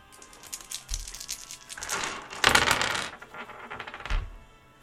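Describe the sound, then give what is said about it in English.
Several dice clatter and rattle across a hard tabletop for a few seconds for a stealth roll with a boost die, a loud run of bright, rapid clicks with a soft thump as the roll starts and another as it ends. “Okay, go ahead and give me a stealth roll just in case.”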